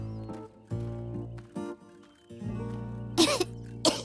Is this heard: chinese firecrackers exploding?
no